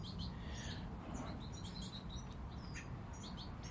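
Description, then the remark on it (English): Several birds chirp and tweet in quick, high-pitched bursts that overlap into steady chatter on a sunny, cloudless, fairly calm morning, with the lightest of breezes fluttering the leaves on the trees, above a constant low rumble of wind or background noise. “Beautiful morning, and the birds are all chattering away.”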